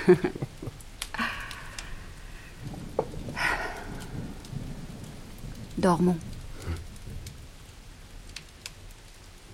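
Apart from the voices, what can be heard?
heavy rain with thunder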